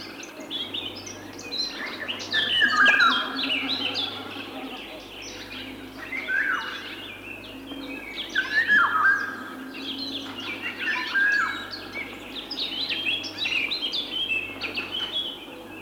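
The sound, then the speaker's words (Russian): Golden oriole song: repeated fluting whistled phrases every few seconds over a busy chorus of chirping birds, with a faint low hum in the background. “Наша Иволга не уступает им. Ярко-желтая с черным окраска самца очень красива.”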